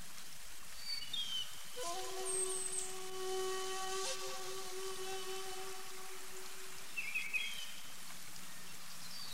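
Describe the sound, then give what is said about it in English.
Water flows softly in the distance as a steady, faint rushing, joined midway by a sustained humming tone and a few brief bird chirps. “Listen to the sounds and hear the water flowing in the distance.”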